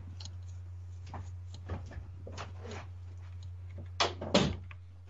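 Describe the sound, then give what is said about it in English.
A door shuts with two thuds near the end, preceded by faint clicks and shuffling movement, all over a steady low electrical hum. “I'm going to shut that door in case they call back.”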